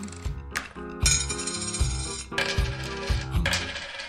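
Marbles roll and knock together, a series of bright clicks and clinks over a few seconds, moderately loud, with no one talking.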